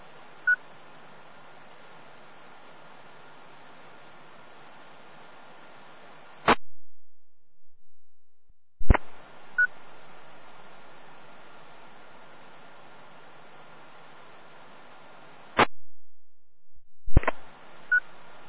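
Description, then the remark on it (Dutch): Telephone keypad dialing tones over a thin, hissy phone line, broken up by sharp clicks and short silent gaps, with no one speaking. “Ik heb even, heel even een korte telefoon.”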